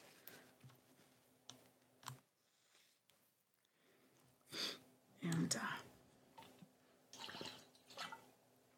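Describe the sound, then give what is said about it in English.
Someone takes a swig of water: a few soft gulping and sloshing bursts with small clicks and breaths between them, faint overall and with no talking. “Let me grab that swig of water.”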